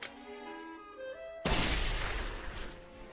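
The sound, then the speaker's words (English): A toy cannon fires and blows up with a loud, crackling boom after a brief tonal whine, the blast rumbling and fizzling out over the next couple of seconds, alone without any talking. “There, a cannon!”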